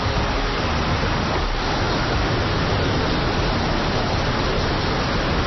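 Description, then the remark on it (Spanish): A hailstorm pounding down in the centre of Madrid, a dense, steady roar of countless impacts that stays loud and unbroken throughout, with no voices heard. “lo más llamativo es la impresionante granizada que está cayendo ahora mismo en el centro de Madrid”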